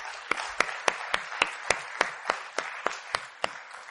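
An audience at a church service applauds in appreciation of the staff, in a steady wash of clapping, with a string of sharp, evenly spaced claps punching through on a quick regular beat. No one speaks.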